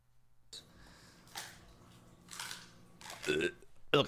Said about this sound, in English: Okay. He's crunching up a chicken foot.